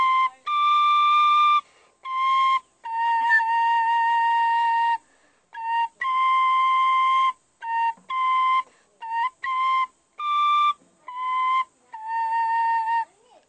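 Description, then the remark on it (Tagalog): A reedy whistled or piped tune played as a call to summon birds, imitating the sounds of birds or frogs of the mountains: a run of steady mid-pitched notes, some long and held, others short and clipped, with brief pauses between, played alone without talk. “Ang pangalawa po, yung uni ng ibon, yung mga kaibigan namin na ibon or palaka sa mountain.”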